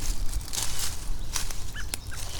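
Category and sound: bird, bird squawking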